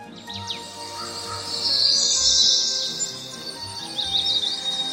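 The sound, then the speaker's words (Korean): Birds chirp and call while a steady high insect buzz swells through the middle, with scattered tweets continuing on either side, in a forest of Korean pine and larch along an eco-forest trail beside a sunflower field, in a quiet outdoor setting. “나뭇가지 어디선가 새소리, 풀벌레 소리도 끊임없이 들리고 나무 사이사이마다 야생화가 피어있다.”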